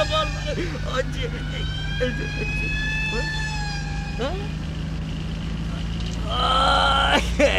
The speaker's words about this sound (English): There goes a siren, man.